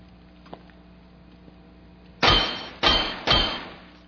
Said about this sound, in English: One pane, unbreakable glass, one standard issue ring finger. Twist so, voila. Ultra high frequency, single digit sonic agitator unit.